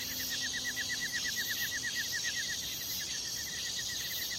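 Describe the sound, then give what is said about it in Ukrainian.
A bird chirps in a quick, steady run of short repeated notes over a constant airy hiss of a large forest, fairly quiet, with no voices. “Ми все далі заглиблювалися в ліс, і материна пісня чулася все тихіше, потім зовсім замовкла, тільки щебетали пташки та шумів великий ліс.”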